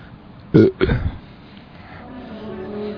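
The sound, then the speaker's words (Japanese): After a 3, 2, 1 countdown, a short, throaty burst from someone straining to burp, a quick guttural push followed by a second rougher grunt, fairly loud, then faint background murmur and low voices. “多分、ゲップだった？ゲップだった？”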